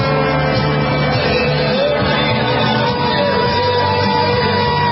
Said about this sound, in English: Saying boo, and he's trying to wave at folks, etc.